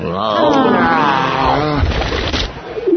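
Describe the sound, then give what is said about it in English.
A bird lets out a warbling, throaty coo, followed by a burst of rough, fluttering wing flaps, fairly loud. “Get away, you filthy bird! Shoo!”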